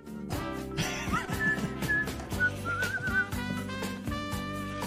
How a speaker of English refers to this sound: can you whistle?